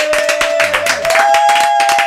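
A short burst of applause after a band member is introduced on a show, dense clapping and a few cheers, fairly loud, with a steady sustained tone ringing underneath from an instrument or amplifier.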